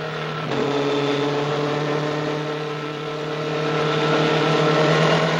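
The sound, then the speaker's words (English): Racing car engines drone at high speed in a steady, loud roar as a pack of open-cockpit cars races over undulating hills, a red Ferrari slightly ahead of a yellow car, growing slightly louder toward the end, with no voices. “Mancini's red Ferrari keeps a slight lead over a yellow car.”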